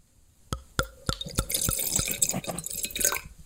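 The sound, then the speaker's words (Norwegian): Rosé wine poured from a PET plastic bottle into a glass: a few sharp, splashy drips at first, then a steady bright trickling stream with no glugging, fading out at the end. “Og jeg får helle litt i glasset da.”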